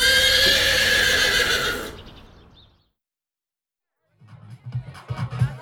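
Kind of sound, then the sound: animal, horse neighing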